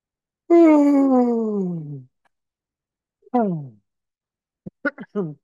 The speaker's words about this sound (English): Just take some nice deep breaths. As you're breathing, just breathe as you're yawning. Take some extra deep breaths in there. Get some extra in.